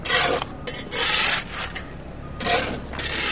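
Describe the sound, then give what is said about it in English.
Volunteers' shovels scrape and grind through dirt and rocks in a vacant city lot being turned into a community garden, in several rough, rasping strokes, each a loud gritty burst separated by brief pauses, with no voices. “Volunteers with shovels in hand, moving dirt and rocks.”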